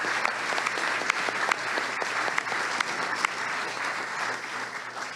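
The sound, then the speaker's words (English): Steady audience applause for the partners at an evening event fills the whole stretch. It is a dense crackle of many hands clapping with a few sharper individual claps popping out, holding at an even, fairly loud level without voices. “Actually, I want to give a huge round of applause just for all of these amazing partners here tonight.”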